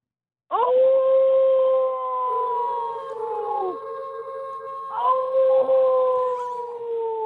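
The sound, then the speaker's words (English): A person does a long, loud wolf-like howl, a sustained wavering tone that starts suddenly, dips slightly midway, then swells again and carries on to the end without pause. “I gave you a howl. Can I do one back?”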